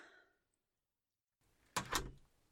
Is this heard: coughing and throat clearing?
no